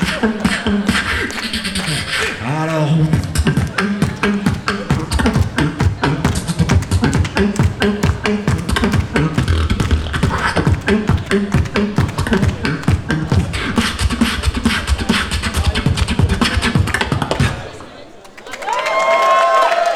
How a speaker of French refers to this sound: C'est pas faux, le générique de Positive Onde, c'est un peu plus chill.